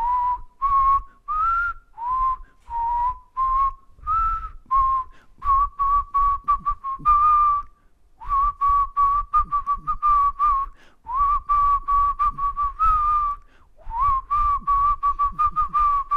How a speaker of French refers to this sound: Papa, tu nous siffles quelque chose ?